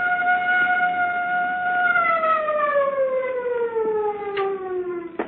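A loud, steady siren holds a sustained wail with strong harmonics, then its pitch slowly slides downward as it winds down. No voices are heard.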